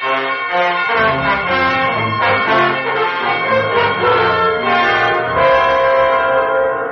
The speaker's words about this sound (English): Before we knew it, the war was over. The great brass tongues of church bells sang out the joy that swept the nation.